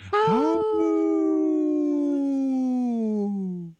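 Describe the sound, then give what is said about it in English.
A woman imitates a wolf howl with one long, sustained, rich-toned call that starts high and slowly slides downward over several seconds, loud, with no other sounds. “I had a little bitty awoo.”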